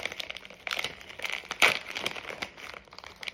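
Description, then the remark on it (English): A crinkly plastic bag of sweet and spicy fried chicken chips, bought from Box Lunch or Hot Topic, rustles and is torn open, with a sharp, loud rip partway through amid continuous crackling handling noise. No one speaks. “Rip it.”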